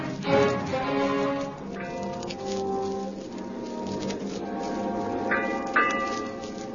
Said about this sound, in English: Eight bells. Guess I better call all hands.